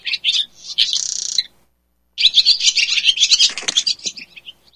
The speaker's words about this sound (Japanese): これはだけど、何の音か分かりますよね。 鳥、 ね、それは分かりますね。鳥ということは分かりました。 スズメとかじゃなくて、 あー、でも近いですね。だけど、この5、やっぱり、この5月か6月にやっぱりよく見る鳥という感じですね。